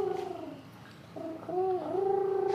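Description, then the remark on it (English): A human voice imitates a whale with long, hummed moaning tones that waver and slide in pitch, breaking into a few sustained phrases with no words spoken. “And the whale was... so fucking cool, because the whale was like...”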